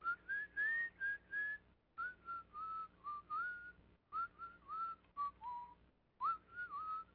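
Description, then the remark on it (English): A person whistles a song, clear melodic phrases rising and falling in short bursts separated by brief pauses, with no talking. “That's what the fuck I'm whistling.”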